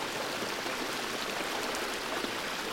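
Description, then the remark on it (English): Steady rushing of flowing water, like a stream, with a dense, even hiss that never lets up. It sounds continuous, with no voices present. “And the sound of water rushes to your stomach.”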